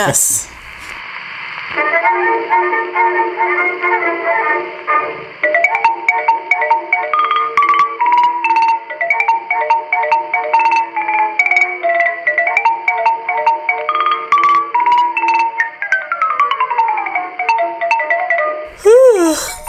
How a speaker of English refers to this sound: Oh, God. Edit that out. Why is it so loud? That was your phone, huh? That was your phone.